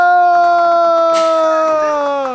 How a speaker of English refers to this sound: We want to hear the jumping off the edge. And you want to hear the scream as well? Yes.